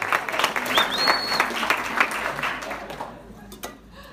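A crowd applauds in a dense, steady burst of many clapping hands, with a brief whistle early on, before the clapping thins and fades away toward the end.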